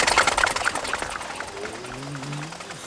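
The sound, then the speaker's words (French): A small Solex moped engine putters rapidly as Mr. Bean starts it, then its pitch rises into a whining drone as he rides off and it pulls away, the sound thinning out without fully fading. “Il remonte sur son Solex et s'en va.”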